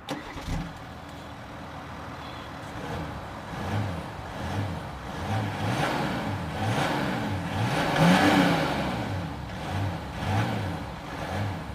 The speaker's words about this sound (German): Und das Auto klingt so.